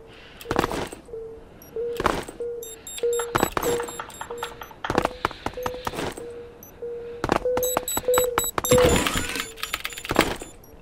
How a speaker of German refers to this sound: gut, er hat noch Claymores gelegt und gezündet. Vielleicht.